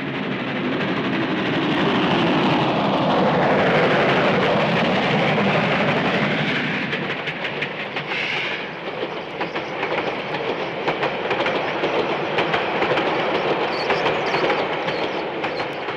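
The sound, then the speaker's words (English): A train with two engines, one a banking engine, rumbles steadily into National Park station at night, its heavy engine drone and rolling wheels filling the scene with continuous, loud noise, with a brief hiss of brakes partway through. “That recording that you made at Kakahi of the banking engine coming on to help the train get up the hill, that same night you chased that train and got to National Park before it arrived with the two engines coming into the station.”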